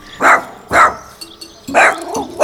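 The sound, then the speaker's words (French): A dog barks four times, loud sharp woofs in an uneven rhythm with short pauses between them, the last two coming closer together. “Les aboiements de mon chien.”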